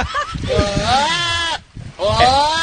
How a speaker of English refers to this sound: Here's a goat who surprisingly speaks English, but only one word. Listen up.